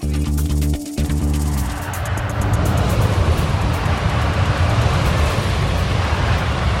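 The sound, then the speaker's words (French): A high-speed train roars past on the high-speed line at Marsas in Gironde, France, under 100 metres from a house, on a line with an average of 52 trains a day: a humming, tonal rumble at first, then a loud, steady rushing roar that fills the whole seven seconds, with no voices. “Hein, là, on est à une moyenne de 52 trains par jour.”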